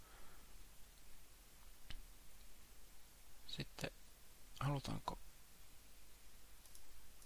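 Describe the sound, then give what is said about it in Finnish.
A handful of sharp computer mouse clicks, spaced irregularly with a few in quick succession, crisp while a person speaks quietly in between, clicking points on an image to add interactive content. “Eli täällä on näitä pisteitä. Klikataan mihinkä halutaan.”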